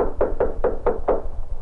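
Five quick knocks rap on the door of a small railway caboose car standing on a temporary spur in darkness, in a steady, even rhythm, moderately loud, followed by a short quiet moment with no voices.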